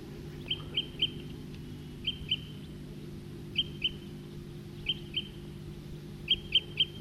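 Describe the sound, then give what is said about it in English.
A male type 2 bird, perched in a nearby tree, repeats short, high, sharp 'tooping' call notes, mostly in pairs or triplets with brief pauses between, over a steady low rumble; no one speaks. “Male's still tooping.”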